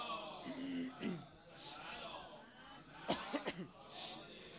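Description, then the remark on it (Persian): A quick cluster of three or four dry coughs, close to the microphone, comes after a moment of someone speaking, with a faint room hiss underneath. “این سرفه‌های منم که انشالله نگرانتون نمی‌کنه دیگه، اینا همیشه بوده از اول این کرونا غیر کرونا فرق نمی‌کنه، این سرفه‌های ما به قول امروزی ها دیفالته، این همیشه با ما هست، این نگران نشید.”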